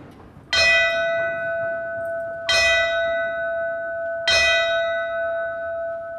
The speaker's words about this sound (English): Fellow first responders honored the crew with a traditional last call ceremony, symbolizing the end of their shift. They have completed their tasks. They have given their best. In tribute to their lives and service, we sound this final bell.